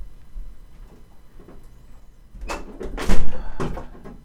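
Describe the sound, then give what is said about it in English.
A door is slammed shut with a few quick thuds and rattles, the loudest bang in the middle. “I mean, if you're going to slam a door.”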